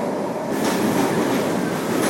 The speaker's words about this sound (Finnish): No niin, sieltä se juna tulee.